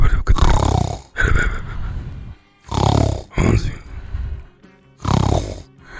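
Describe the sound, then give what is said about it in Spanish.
Loud snoring from someone lying on a sofa, in repeated breaths, each one a rough, rattling inhale followed by a quieter exhale, with three strong snores over a few seconds and brief pauses between them. “Ahí está roncando.”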